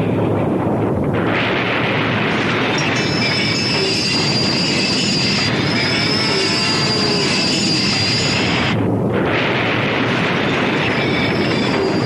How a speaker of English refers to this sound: Through, through, through, he'll get the train through. Oh, this train filled with stuff we'd love to eat. Children all waiting for it on other side of narrow, dangerous mountain pass. And me responsible for whole train. Me must get train through.